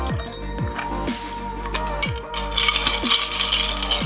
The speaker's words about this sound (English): And now for the terror from the north, the White Walker. Fill a highball glass with ice.